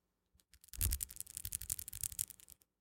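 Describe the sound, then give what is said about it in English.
Fingernails click and tap in a rapid, uneven flurry for about two seconds, crisp and bright with a scratchy edge, like nail ASMR. No one speaks. “Can you stop clicking your nails? I can't hear. Wait, you want to hear some nail ASMR?”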